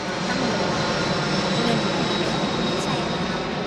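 A jet airplane roars steadily and loudly for the whole stretch, heard at a cemetery about 2 miles from Ho Chi Minh City's busy international airport, a broad rushing engine noise topped by a thin, high-pitched whine, with no pauses or breaks.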